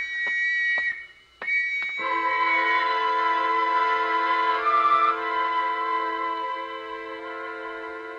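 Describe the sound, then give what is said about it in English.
Loud, steady whistles blare together in a sustained, overlapping wail, preceded by a few sharp clanging bell strikes in the first couple of seconds, with whistles and bells sounding all around; no one speaks. “And the whistles and the bells all around.”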